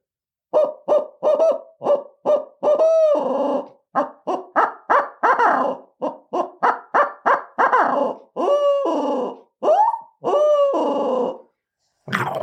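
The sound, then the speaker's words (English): A rapid series of loud owl hoots blown on a handheld owl call, grouped into rhythmic bursts with brief pauses between phrases and some drawn-out notes; no talking. “Pretty good sounding owl call.”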